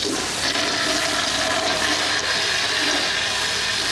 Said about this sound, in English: Flush it, flush it, flush it!